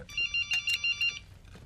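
A mobile phone rings with a bright electronic tone, six quick pulses in a steady pattern, moderately loud over a faint low background hum.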